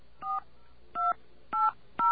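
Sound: telephone dialing tones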